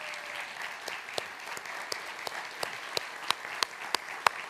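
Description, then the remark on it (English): An audience applauds steadily for several seconds for the standing volunteers of a Vacation Bible Camp, a dense wash of many hands clapping, with a few sharper, louder individual claps standing out toward the end. “I know you didn't do it for applause, but I want you to know that we are so thankful for what you did with our kids.”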